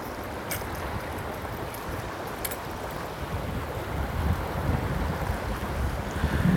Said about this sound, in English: This river is moving fast.